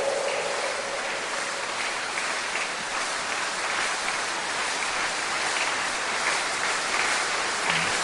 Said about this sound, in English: That's not the kind of clapping that will cause God to arise. If you are going to praise him this year, you have to do it very well.